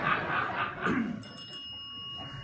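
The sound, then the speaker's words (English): A small bell is pressed and rings once, a bright, clear tone that rings on steadily after some muffled noise at the start. No one speaks. “And as they push that, one of them, he even figures out, as he's trying to struggle over here, this one on the left, he figures out, you know what, I think her bell's working better than mine.”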